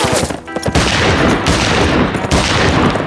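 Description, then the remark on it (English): A loud burst of pistol shots fired into the air cracks out in rapid succession, the sharp reports piling into a dense, continuous volley for about three seconds with no voices. “Rusty fired his pistol into the air, hoping to confuse and perhaps discourage the soldiers.”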